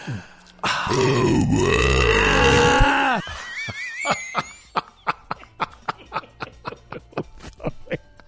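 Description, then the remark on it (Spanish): A long, loud, deep human burp, recorded about 15 years ago on a high-quality microphone, rumbles for a few seconds, followed by a run of short, rhythmic bursts of laughter. “Y les recordamos de dónde salió ese eructo que acaban de oír”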